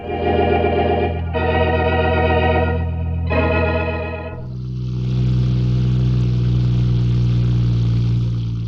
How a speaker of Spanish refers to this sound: El lujoso auto se desliza por la amplia avenida trepando la cuesta rumbo al barrio elegante de Tánger.